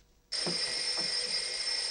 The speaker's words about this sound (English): The phone is ringing. As his manservant goes to answer the phone, Clouseau hits him with the pole.